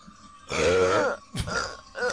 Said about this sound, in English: The disappointed look for the unsuccessful burp.